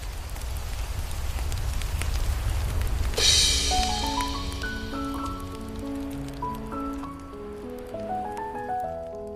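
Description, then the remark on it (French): An evening campfire crackles with scattered pops over a low, steady rumble. A few seconds in, Pelotine El Famos begins playing plucked guitar notes around the fire, and they ring out over it. “Pelotine El Famos joue de la guitare le soir autour du feu de camp, pendant que le papa Chanat fait griller des brochettes de chamallow.”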